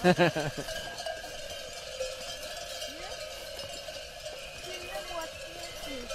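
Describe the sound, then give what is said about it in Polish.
A bell hung on a grazing ram clanks loudly in a quick cluster of strikes, then keeps ringing with a steady, lingering metallic tone against a quiet outdoor background. “Ale dzwonił.”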